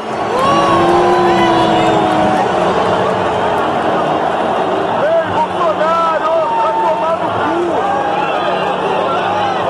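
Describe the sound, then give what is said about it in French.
A huge crowd at the Maracanã stadium in Rio de Janeiro, at the Copa América football final, boos and whistles at the president as he comes onto the pitch: a dense roar of jeering voices with shrill whistles rising and falling on top, loud and sustained throughout. “Voilà, une bronca de sifflets, de huées pour accueillir le président sur la pelouse.”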